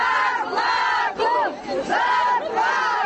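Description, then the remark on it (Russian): A crowd of striking workers, mostly women from a large lighting-engineering plant in Saransk, Mordovia, Russia, chants loudly at a picket outside the plant management building, demanding unpaid wages; their massed voices swell and dip in repeated shouted phrases with a steady rhythmic cadence and no single speaker standing out. “Они провели пикет у здания завода управления.”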